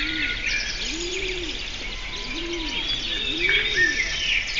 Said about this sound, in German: Dann haben wir hier einmal Vogelgezwitscher.